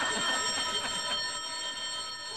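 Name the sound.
telephone ringing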